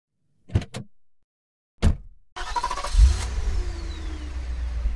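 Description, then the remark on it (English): A few sharp car door thumps, then the engine of the ambassador's big black car, with a chauffeur waiting, starts up and settles into a steady idle that runs to the end with no voices. “On the first day, the chauffeur waits for Alan in the ambassador's big black car.”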